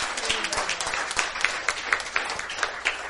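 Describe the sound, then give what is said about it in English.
A church audience claps and cheers for the Lord, a dense, steady wash of applause with sharp hand-clap transients scattered throughout and a few voices mixed in, sustained for the whole few seconds. “Give the Lord a cheer.”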